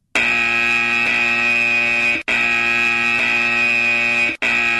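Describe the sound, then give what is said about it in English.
A loud, harsh electronic buzzer sounds in long blasts of about two seconds each, separated by brief gaps, repeating steadily with no voices present. “And then there's a repeated buzzer.”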